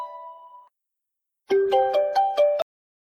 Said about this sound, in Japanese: あれ？電話？あ、え？あ、ううん、友達から。